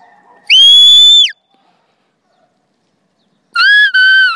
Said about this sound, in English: Left whistle.